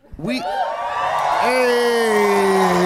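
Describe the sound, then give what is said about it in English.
A live audience erupts in loud cheering, with sharp rising whoops and yells cutting through a sustained roar of voices that holds steady for the full few seconds. “I was just basking in the adoration of the crowd.”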